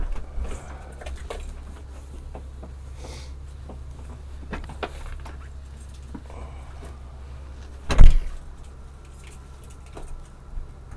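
A bus idles with a steady low engine rumble, then a single sharp burst near the end as its doors open, followed by quieter shuffling sounds.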